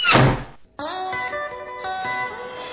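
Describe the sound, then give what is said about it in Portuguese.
A heavy door slams shut with a single loud, booming thud, followed after a brief silence by a sustained, ringing tonal chord that fades slowly. “Quantas portas ainda irão bater?”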